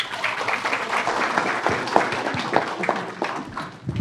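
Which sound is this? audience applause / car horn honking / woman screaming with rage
audience applause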